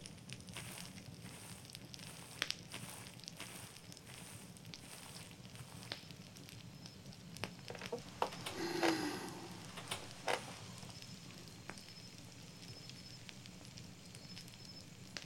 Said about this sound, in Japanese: やっぱり焚き火って落ち着くね。パチパチって音とゆらゆらしてる火に集中しちゃうっていうか、あんなにドキドキしてたのにだいぶいつも通りの感じになってきたね。